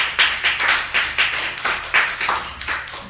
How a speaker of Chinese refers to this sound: 拍手将荣耀归于上帝。